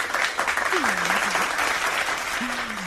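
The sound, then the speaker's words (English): A burst of applause sound effect, dense and steady clapping at an even loudness throughout, with a few faint low voice-like sounds beneath it. “Probably shouldn't have had the clap then, sorry.”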